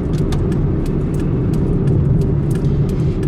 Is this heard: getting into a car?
yes